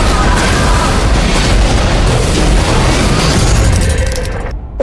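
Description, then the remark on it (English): A loud, sustained lightning strike hitting ancient markers, from a movie trailer, roars with a dense crackling boom that fills the whole range, rumbling steadily for several seconds before cutting off abruptly. “That lightning, it hit those markers and it took us somewhere.”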